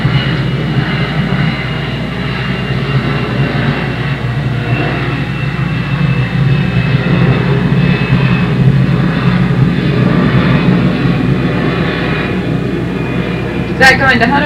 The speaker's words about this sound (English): Maybe better wait till the plane goes over. Maybe so.